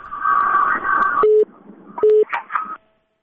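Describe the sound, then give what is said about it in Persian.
A noisy, garbled telephone line from a listener's call to a call-in program breaks up, cut by two short, steady mid-pitched beeps, then a final burst of crackly line noise before it drops into silence as the call disconnects. “خب تلفن چون قطع شد فکر میکنم به هر حال اندکه گاگای مشکلات تکنیکی پیش میاد و شنونده ها انتظار میمانند.”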